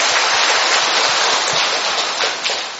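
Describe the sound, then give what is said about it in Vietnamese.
A crowd of young people at a church prayer gathering breaks into dense, sustained applause, greeting one another warmly, many hands clapping together in a steady loud wash that holds throughout and only begins to thin slightly at the end. “Ấy thế mà các bạn đã đến đây, chúng ta hân hoan chào nhau một tràng pháo tay nồng nhiệt thưa các bạn.”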